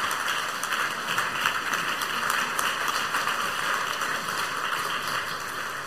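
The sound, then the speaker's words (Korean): A church audience claps together in sustained, dense applause for a special offering given by the newly appointed church officers, a steady wash of many overlapping claps that holds at an even loudness for several seconds without a voice over it. “큰 박수 해주시기 바랍니다.”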